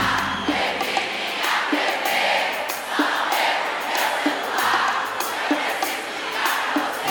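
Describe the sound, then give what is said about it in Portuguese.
A large audience at a live music show being filmed for a DVD cheers and shouts steadily throughout, a dense, continuous roar of voices with recurring swells and a faint rhythmic thump underneath, no single speaker standing out. “Quem gostou faz barulho, vamos puxar essa de novo pra gente filmar pro nosso DVD.”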